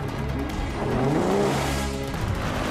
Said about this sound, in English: Coming out of a tunnel and rounding a corner, Bond skids the car to avoid the police Land Rover, which blocks the road in front of him, and heads off through the dusty quarry, the Alfa still on his tail.